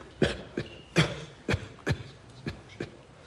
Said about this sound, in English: If you could attempt to suppress your cough.